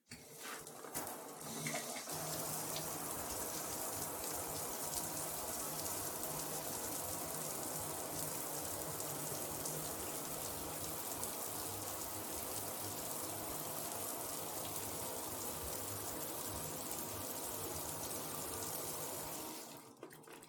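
A warm shower runs steadily for about twenty seconds, a dense, continuous hiss of water spraying and splashing, starting and stopping abruptly with no voices.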